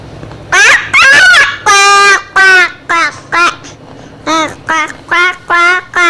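duck quacking

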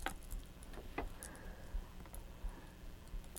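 keys jangling

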